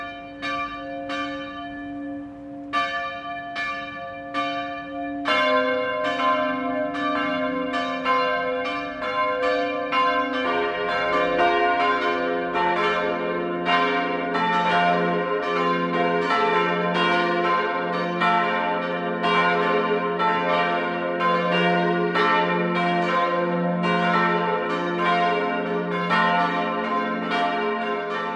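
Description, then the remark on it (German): The bells of the Protestant Jakobuskirche in Oberkotzau, Upper Franconia, Germany, about 5 km south of Hof, ring the midday chime in a steady peal, starting with a single bell's strokes before more bells join in a dense, resonant, overlapping chime that continues loudly throughout, with no voices. “Das Mittagsläuten kommt heute von der evangelischen Jakobuskirche im oberfränkischen Oberkotzau.”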